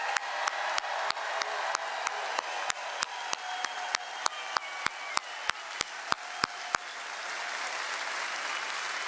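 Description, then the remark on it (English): A large crowd in Ohio, at an event with President Trump, applauds loudly for the men and women of the United States Coast Guard on its 228th birthday, with sharp, evenly spaced claps beating a steady rhythm over a dense wash of clapping, then the rhythm stops and the broad applause carries on. “And to all the men and women who serve and have served, let's give them a roaring sound of applause.”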